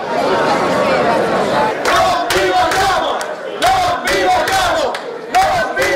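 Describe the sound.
A large crowd at a protest march shouts and chants together, a dense, loud roar of many voices rising in repeated bursts, with sharp rhythmic accents cutting through the continuous din.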